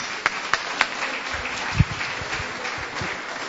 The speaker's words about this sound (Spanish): Un aplauso para ella, que por motivos laborales no está aquí.